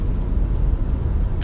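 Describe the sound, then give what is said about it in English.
Steady rumble of a car closely tailgating on the road, staying behind even when the driver ahead slows down, a continuous low engine and tire drone with a brief hiss near the end and no voices. “Now he's still really riding me here.”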